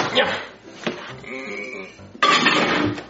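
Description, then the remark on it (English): A dish holding a homemade cake of marshmallows, macaroni and cheese and syrup clatters and scrapes as it is set down inside a microwave, with a brief knock midway and a louder burst of handling noise near the end. “All right, now I gotta put it in the microwave.”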